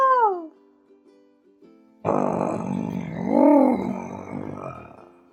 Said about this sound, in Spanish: Gruñó su gran oso.